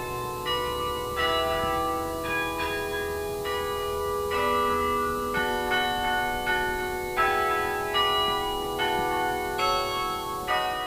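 A university campus carillon, played by a student in her first carillon class, rings out with a steady sequence of struck bell notes, each one overlapping the lingering hum of the last, loud and resonant with no voices present.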